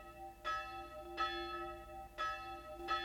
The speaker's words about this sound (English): From the small cemetery outside the Hungarian town of Sopron, the passing bell knells for old Laszlo Bozo, dead for 3 days.